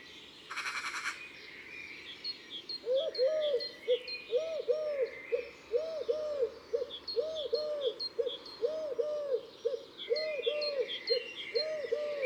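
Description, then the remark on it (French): A Eurasian collared dove, a beige bird with a black collar, coos its usual song in steady, repeating phrases of three like notes with the accent on the second, clear, while smaller birds chirp faintly in the background after a brief rustling burst at the start. “c'est la tourterelle turque, très élégante avec son plumage beige et son collier noir.”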